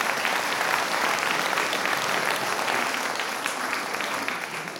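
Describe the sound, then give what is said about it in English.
Sustained audience applause for a contestant's quiz answer, a dense wash of many hands clapping at steady loudness throughout, tapering slightly toward the end, with no talking over it. “A round of applause for that amazing answer there.”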